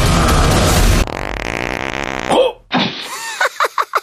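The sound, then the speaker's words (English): A loud, drawn-out buzzy fart rumbles for about a second right after a blast of noise, followed by a few short sputtering pops. Nobody speaks. “He farted.”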